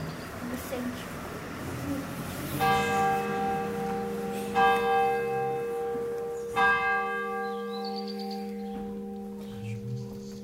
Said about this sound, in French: Donc il est midi, 12h, ça sonne 12 coups. Là, normalement, ça devrait ressonner plus fort.